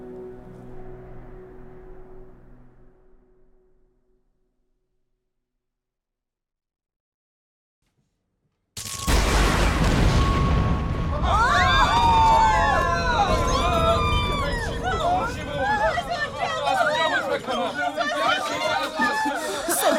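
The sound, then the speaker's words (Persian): After a quiet stretch, a sudden loud explosion bursts in, followed by sustained rumbling debris noise mixed with agitated crowd voices and cries. “انفجار بود.”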